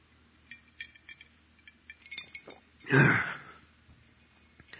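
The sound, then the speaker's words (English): Several light glass clinks from a glass of water tap out irregularly over the first couple of seconds, followed by a louder, throaty swallowing or burping sound as the whole glass of water is chugged. No one speaks. “And what I'm going to have to do here is chug along this entire glass of water.”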